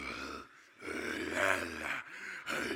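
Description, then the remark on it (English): A voice imitates a man's loud, heavy breathing: raspy, forceful breaths rising and falling with short pauses between them, some edged with a growly, voiced rasp, fairly loud. “there's one dude in the back, and he's breathing loud. He's like, but this is what I hear.”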